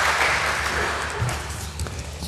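A crowd applauds two people steadily, a dense wash of many hands clapping at an even, fairly loud level throughout, with no voices heard over it.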